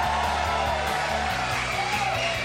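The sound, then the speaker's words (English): A crowd cheers and whoops in a steady, loud roar, with a pulsing bass line of stepped notes running underneath throughout. “I still don't know where that crowd is.”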